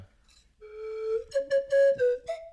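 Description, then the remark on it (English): A professional slide whistle plays a steady tone that bends slightly upward, then a string of short, breathy toots at shifting pitches, fairly loud with no talking. “That's why that's a professional slide whistle.”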